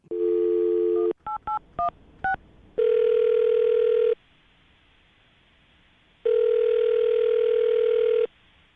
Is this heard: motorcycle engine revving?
no